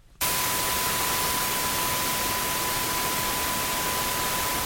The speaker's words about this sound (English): That's right, and it's not going to be obvious, and so we do a lot of work to try to hear this very subtle beep in the middle of a sea of noise.